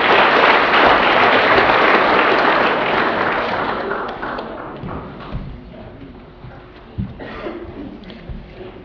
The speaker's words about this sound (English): Alrighty, and if you haven't had a drink today, give yourself and your higher power a round of applause.